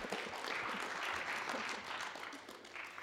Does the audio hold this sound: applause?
yes